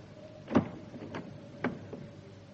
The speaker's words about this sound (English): And move from that door, Cadvile. Let her go and I will move. Open that door, Cadvile.